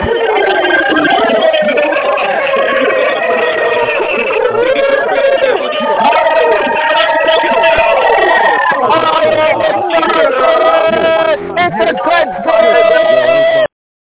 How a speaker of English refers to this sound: If that's you, I want to hear you screaming to the phone as I unmute the lines right now. Get fired up.